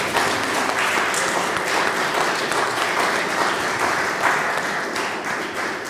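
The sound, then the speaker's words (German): A church audience applauds steadily for its newest members, a dense wash of many hands clapping at once, fairly loud and sustained for several seconds without talk. “So, dann ein besonderer Applaus für unsere neuesten Gemeindemitglieder.”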